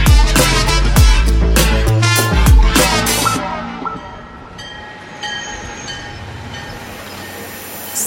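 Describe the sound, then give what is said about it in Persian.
A train rumbles into a station with heavy, rhythmic clattering of wheels, then slows as a long, steady high-pitched whistle sounds over a low mechanical hum. No one speaks. “یه سوت ممتدی به گوش من رسید و بعد پیاده شد در ایستگاه”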